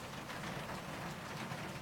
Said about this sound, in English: Listen to that rain.